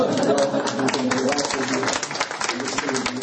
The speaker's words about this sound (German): Ich habe auch jetzt inzwischen auch sehr gute Zusammenarbeit mit dem Bistum, mit Frau Grossmann, die heute nicht leider mit uns dabei ist, aber sie sind, und sie machen das sehr, sehr toll. Ein Applaus.